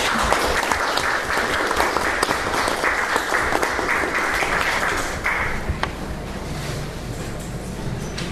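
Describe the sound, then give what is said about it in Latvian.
People at a municipal council meeting applaud after a decision is passed, dense, continuous clapping at a fairly loud, even level, thinning slightly toward the end. No one speaks over it. “Mēs ar aplausiem, jā.”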